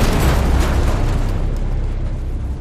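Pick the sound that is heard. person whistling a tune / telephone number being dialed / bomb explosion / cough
bomb explosion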